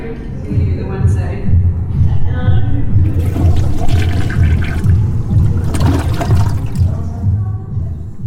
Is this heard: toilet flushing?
yes